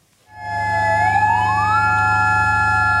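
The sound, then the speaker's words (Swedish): A loud, steady siren sounds in Mandalay, Myanmar, at 12:51 pm, marking the start of a minute of silence for earthquake victims; its wailing tone slides upward over a deep, constant rumble and keeps sounding continuously with no voices. “9 minuter före 1 på eftermiddagen, det klockslag som jordbävningen inträffade, ljöd sirener i Mandalay för att markera starten på en tyst minut.”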